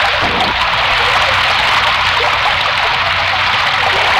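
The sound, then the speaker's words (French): Heavy rain pours steadily onto asphalt pavement in Paris, a dense, continuous hiss with water streaming and splashing, loud and unbroken throughout, with no voices. “La pluie redouble et ruisselle le bitume parisien.”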